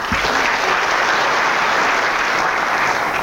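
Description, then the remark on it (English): Steady, dense applause from an audience welcoming Dale Petrosky of the Dallas Regional Chamber, a continuous bright crackle of many hands clapping at a loud, even level throughout with no voices over it. “Please give a big round of applause for Dale Petrosky from the Dallas Regional Chamber.”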